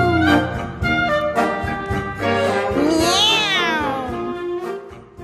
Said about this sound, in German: Bei der Abfahrt der Kutsche fing der Kater zufrieden an, auf und ab zu springen, zu tanzen, zu singen. Miau! Miau! Miau!